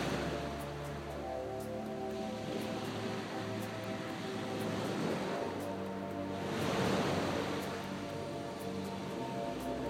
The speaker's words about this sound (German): In meinen Gedanken liege ich gerade an einem wunderschönen weißen Sandstrand. Ich höre das stetige und wohltuende Geräusch der Wellen, die in ihrem wunderbar gleichmäßigen Rhythmus an den Strand spülen.